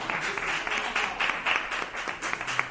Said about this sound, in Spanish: Podéis aplaudir, porque es precioso.